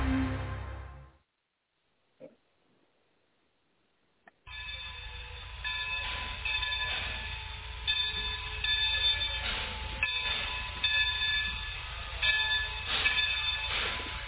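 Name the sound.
train passing on rails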